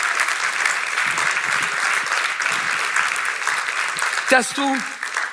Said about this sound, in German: Und wir brauchen, dass das jetzige Dream Team, ein Applaus für unser Dream Team, überall, wo ihr seid.